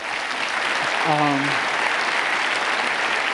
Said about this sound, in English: I have here my little experiment. Great hand of applause for my guinea pigs.